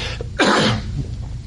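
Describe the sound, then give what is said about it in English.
A single sharp cough bursts out after a drink of water, loud and brief, with no talking around it and only quiet background noise before and after. “excuse me, I took a drink of water to make me cough, I guess.”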